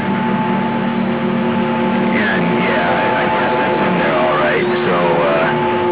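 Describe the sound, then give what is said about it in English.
A truck engine held at full revs against its rev limiter at 4,000 RPM with the accelerator pedal floored, a steady, loud droning hum with a thin whine on top, while muffled talking drifts in over the second half. “There's a rev limiter on this truck. Look at that. I put my foot to the floor and it sits at 4,000 RPM.”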